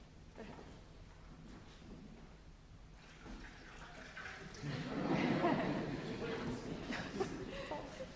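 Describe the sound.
Water from Pennsylvania is poured into a container, starting quietly and swelling into a fuller, steady splashing stream halfway through, with someone speaking.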